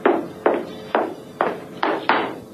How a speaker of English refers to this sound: The man who'd led me there stood outside the door. After several minutes had dragged by, I heard approaching footsteps, and the guard in the doorway jumped to attention.